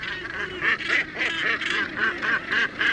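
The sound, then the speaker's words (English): A dense, overlapping chorus of harsh, honking seabird calls from many gannets at a feeding frenzy, plunging from aloft into fish shoals herded by dolphins, loud and continuous with rapid repeated squawks and no speech. “As this happens, gannets begin plunging into the shoals from aloft.”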